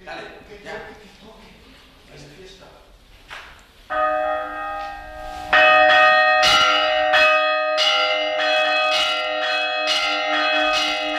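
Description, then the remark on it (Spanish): Church bells start ringing after a few seconds of quiet murmuring, swelling into a loud, sustained peal of overlapping strokes in a steady, patterned rhythm. “Voy a poner el Shazam de campanas, a ver.”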